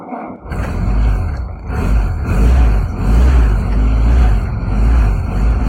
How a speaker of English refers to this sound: The Jeep is a Ford with a Willys engine from 1943, so it's over 80 years old, and it's in the configuration of a regiment called the Special Air Service.